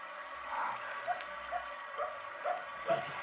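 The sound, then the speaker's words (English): A dog barks outside, a series of short, faint barks at a steady rhythm over a constant background hiss, with no one talking. “There's that dog again. Don't you hear it?”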